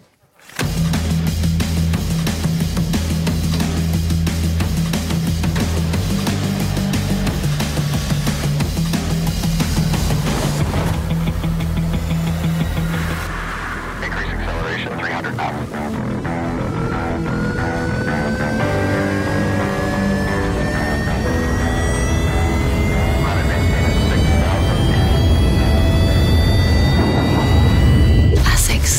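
Loud music from the latest ASICS sport-brand advertisement, featuring runners in the brand's sneakers, opens on steady low droning tones, then shifts into long rising whooshing sweeps that climb in pitch and swell in a building roar, like an aircraft or rocket taking off.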